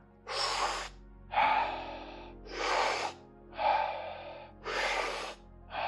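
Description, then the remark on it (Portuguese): Steady, rhythmic deep breathing, with six strong breaths alternating between airy inhales and exhales at an even pace and no pauses in between. “Isso mesmo, encontra o teu ritmo, presta atenção à tua respiração. Inspira, expira. Inspira, expira.”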